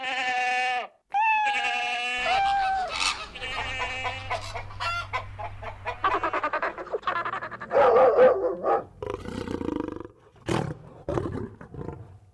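A lion roars loudly in a series of rough, drawn-out calls that rise and break off, with no voices present.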